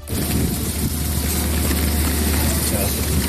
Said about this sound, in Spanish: Este es el sonido de la fina capa de lluvia que esta noche caía sobre los camiones de bomberos que intentan sofocar el grave incendio forestal de Begís, en Castellón.